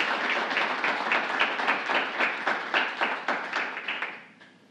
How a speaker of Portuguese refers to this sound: Gostaria que vocês aplaudissem, porque são pessoas que realmente trabalham pela nossa comunidade.